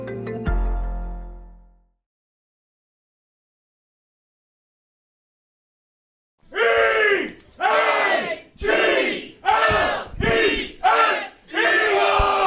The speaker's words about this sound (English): The crowd here at Klondike Kates in Newark, Delaware, bringing us back with an Eagles chant.